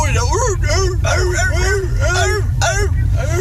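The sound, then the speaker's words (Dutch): Seals at a German seal show bark over and over, about eight short rising-and-falling honks in quick, steady succession, over a constant low rumble of background noise. “Hey, ondertussen zitten we trouwens bij een Duitse zeehondenshow. Het zijn wel zeehonden, ja.”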